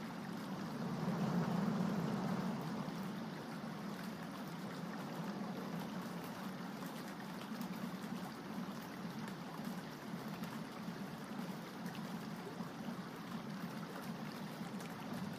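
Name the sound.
ocean waves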